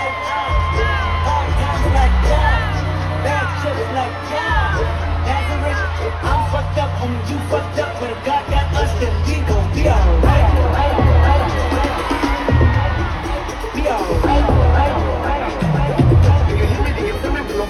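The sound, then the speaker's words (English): A huge concert crowd on a tour stop screams and cheers nonstop as Blue Ivy comes out. Shrill whoops and yells rise over a thick roar for the whole stretch, with deep bass notes from music pulsing underneath. “So that was a moment, and the crowd just went crazy.”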